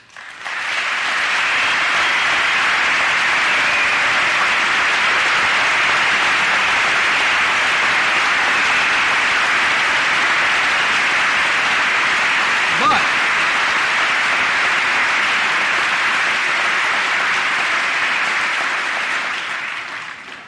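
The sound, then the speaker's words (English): Sustained applause from a large audience of members of Congress in the chamber, a dense, steady wash of clapping that holds at full strength for about twenty seconds before tapering off at the end. “You also have to agree that all those differences you just clapped for all too often spark hatred and division, even here at home.”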